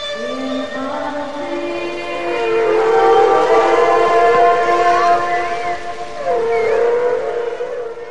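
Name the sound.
humpback whale song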